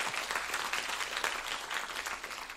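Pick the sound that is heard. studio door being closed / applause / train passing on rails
applause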